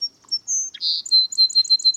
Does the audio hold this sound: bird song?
yes